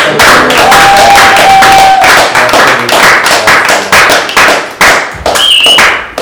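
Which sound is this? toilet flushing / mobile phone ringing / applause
applause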